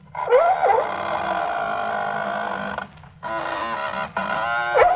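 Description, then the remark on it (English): Leather squeak boxes imitate a Roman galley's oars grinding in their thole pins: a long, strained squeal with wavering pitch, a short pause, then two more rasping squeaks. No voices. “These squeaks are the sounds of the oars in the thole pins.”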